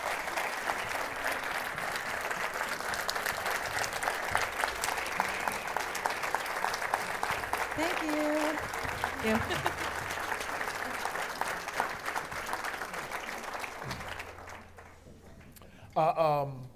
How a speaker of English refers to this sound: Can you do me a favor? Can you just give these folks a huge, huge applause?